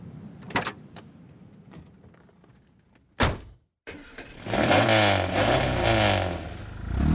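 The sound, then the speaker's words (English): A red sports car idles with a few clicks and a sharp door slam, then after a brief pause the engine roars to life and revs loudly as it accelerates. “It's a beautiful car, and I love it.”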